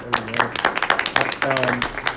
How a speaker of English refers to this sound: I want to pause here very quickly to acknowledge our former board chair and former leader. All right, that's right. Clap it up, man.